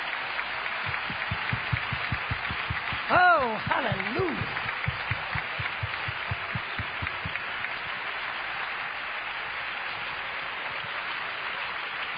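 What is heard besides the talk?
audience hand clap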